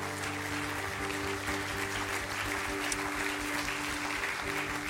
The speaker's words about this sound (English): Can we applaud the Lord for the new life that's found in Christ?